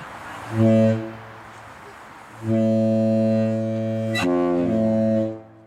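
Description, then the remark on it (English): A ship's horn sounds a short deep blast, then after a pause a much longer sustained one, loud and booming with a rich, steady low tone. No one speaks. “And this person actually links to sound of a ship's horn.”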